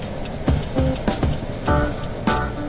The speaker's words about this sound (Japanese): 車来ちゃったね、バイクも来ちゃったね。